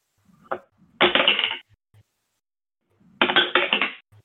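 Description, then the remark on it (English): A handful of dice clatters loudly across a hard table twice during a tabletop role-playing game damage roll, each a dense half-second burst of rattling clicks, preceded by a small shake and a few stray taps. “That's far too many dice”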